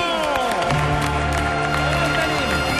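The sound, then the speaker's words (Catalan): A loud, sustained burst of audience applause and cheering fills the space, with whoops and excited shouting over dense clapping throughout. “podem donar un fort aplaudiment al McLari”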